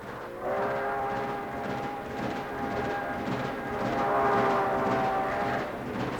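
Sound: moving train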